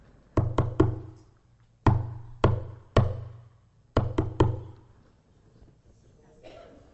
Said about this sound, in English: Yes, that's SOS in Morse code. It was developed by the Germans back in 1905. Became the international symbol for distress, SOS.